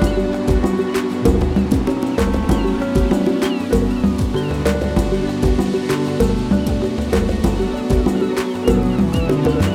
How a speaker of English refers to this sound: Waves and wind.